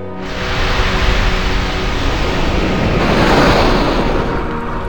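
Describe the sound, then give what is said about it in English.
A steady, loud wash of open ocean waves and wind, a dense rushing roar that swells slightly toward the end, with no voices. “Dwarfed by the vast expanse of the open ocean, the biggest animal that has ever lived on our planet.”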